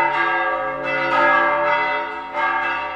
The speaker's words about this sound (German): Die Glocken von Maria Ratna ertönten auch in diesem Jahr zum Portiuncula, einem Fest der Vergebung und des Sündenablasses, und sie luden die Katholiken deutscher Muttersprache zur Wallfahrt ein.